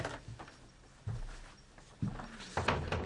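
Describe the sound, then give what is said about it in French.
A door being opened, with a few soft clunks and rattles spaced about a second apart, moderately quiet, with no voices. “Elle est à la porte.”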